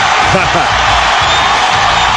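A huge stadium crowd roars and cheers as Peyton Manning takes the field in a game against the Minnesota Vikings, a loud, unbroken wash of noise, with scattered whoops and shouts rising out of it for the whole stretch.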